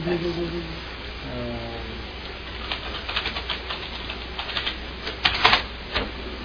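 Typing on a keyboard: a run of quick, irregular key clicks, close by and moderately loud, following a few faint tonal sounds at the start over a low steady hum.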